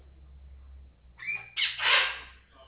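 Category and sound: bird, pet bird squawking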